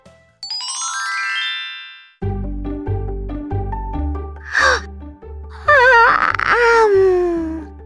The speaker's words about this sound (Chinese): 萌萌说完打了个大哈欠，妈妈看了笑着说， 萌萌这几天都晚睡，一定累坏了。